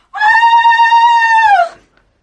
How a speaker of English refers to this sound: At that moment, there was a long, terrible scream from next door.